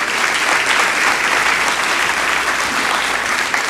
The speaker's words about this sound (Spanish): De un aplauso al Señor por eso.